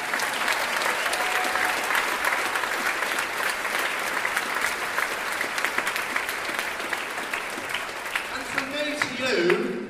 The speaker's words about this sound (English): So, can we give all of those people, please, a huge cheer?